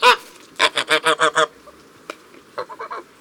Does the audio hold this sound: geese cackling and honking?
yes